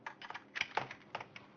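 Quick, irregular keystrokes clatter on a computer keyboard, about a dozen taps in a short burst, fairly quiet, with no voices.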